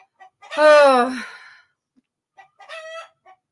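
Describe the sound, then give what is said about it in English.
A rooster crows loudly, a long strained call, followed by short agitated clucks and a second squawking cry from upset chickens. “you could hear the chickens upset back here.”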